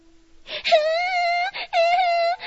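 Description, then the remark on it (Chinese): A voice wails in two long, sobbing cries, each drawn out with a steady, slightly wavering pitch and a breathy intake between them, loud and alone with no talk. “又是谁在哭啊？”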